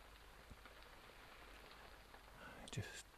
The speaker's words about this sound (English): I just can't sleep with all that rain right now. It's just so freaking loud. You know, I've always liked the sound of the rain though, but this just, yeah, it's a bit too heavy to put me to sleep.